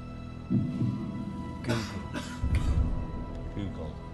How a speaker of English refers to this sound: And there it is, a cough worth £1 million. There's a lot going on in the studio at this moment.